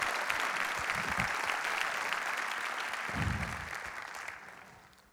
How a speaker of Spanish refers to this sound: Si le va a dar un aplauso al Señor, déselo bien.